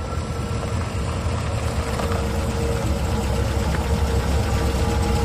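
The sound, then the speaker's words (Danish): A car engine idles steadily nearby as two dark cars park on a residential street in Aalborg, Denmark, around 9 pm on 10 January 2017: a low continuous rumble with a faint knocking texture, holding at an even level throughout with no voices. “Klokken nærmer sig 21, og alting under fred, som det plejer, da to mørke biler parkerer i nærheden.”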